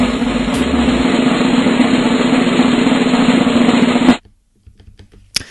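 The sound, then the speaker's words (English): A loud, steady drum roll rattles on for about four seconds, then stops abruptly, leaving near silence with a few faint clicks. “For that, we need a drum roll.”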